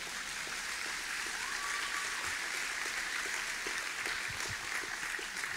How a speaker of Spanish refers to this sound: Un milagro de Dios, dígame si el Señor no se merece un aplauso por eso.